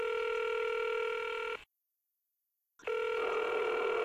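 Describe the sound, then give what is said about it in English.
A steady electronic telephone ringing tone of a phone call at 3 a.m. sounds in two long bursts separated by a pause of silence, clear, with no voices present. “Well, I woke up at 3 a.m. to a phone call.”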